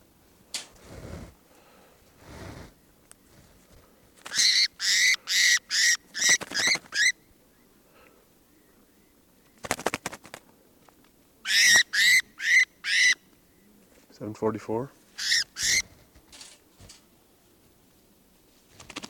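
Birds call in quick runs of five or six loud, harsh, buzzy notes, separated by pauses. A lower, rattling call sounds once, and a few dull knocks are scattered between the runs.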